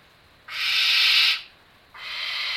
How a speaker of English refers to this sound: Then there's the barn owl that wants to get in on the act.